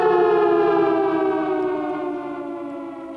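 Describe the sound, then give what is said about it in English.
A loud civil defense siren sounds alone, one sustained, harmonically rich wail that sinks slowly in pitch and gradually fades over a few seconds. “Five alarm siren there for Joe.”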